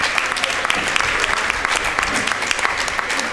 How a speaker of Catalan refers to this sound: Un aplaudiment. Perfecte, gràcies.